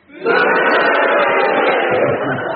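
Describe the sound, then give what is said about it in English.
A large audience votes on whether Clement Freud's challenge was justified, erupting at once into loud, sustained cheering and booing mixed together, a dense roar of many voices that holds steady for a couple of seconds. “If you think that Clement Freud's challenge was justified, will you cheer?”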